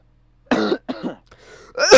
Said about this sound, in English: Oh yeah, the recording doesn't hear me cough. I mute it. Shit. Now every time I cough, they hear me.